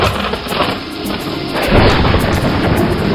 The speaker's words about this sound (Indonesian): Rupanya ada angin puting beliung melanda kampung kita, Bu. Lihatlah, pohon-pohon juga banyak yang roboh.